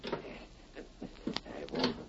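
A door, unlocked with a key, is eased open slowly: a run of soft clicks, creaks and small knocks over a low rumble, with no voices.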